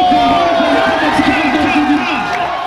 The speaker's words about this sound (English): And the crowd made gigantic, stupendous, enormous noise. And you look on his device and it was super loud.